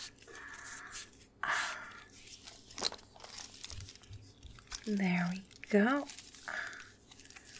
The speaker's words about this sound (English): I'll strap you up all nice and firm now. There's so many fucking buckles.